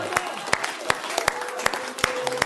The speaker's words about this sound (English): You can clap him if you want. If you're going to clap him, clap him.